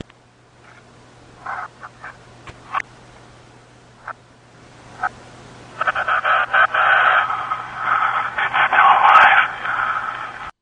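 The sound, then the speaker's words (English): Crackly radio static from the final scene of the film Cloverfield, played in reverse: scattered clicks and short bursts at first, then a dense, warbling stretch of noisy interference that sounds garbled and backward, fairly loud and with no voices. “Spoiler alert, that's the static that you hear in the final scene in Cloverfield, and when you take that static then and they play it in reverse...”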